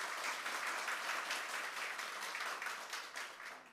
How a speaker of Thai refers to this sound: ท่านใดครับรู้สึกเป็นเกียรติที่ได้อยู่ห้องนี้ร่วมกับ Imperial Master เหมือนผมบ้างครับปรบมือดังๆเลย